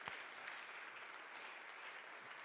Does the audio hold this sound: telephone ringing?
no